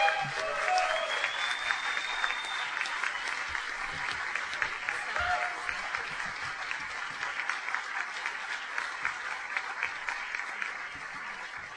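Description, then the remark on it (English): Steady applause from an audience for Emily Miller of the Washington Times receiving a Journalist of the Year award, a dense wash of many hands clapping at an even level for about twelve seconds, with no talking over it. “And as the applause from the audience here, everybody sort of knows and probably read her material.”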